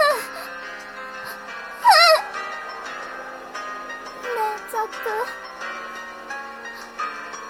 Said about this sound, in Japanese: だったら泣いてねえで笑えよ。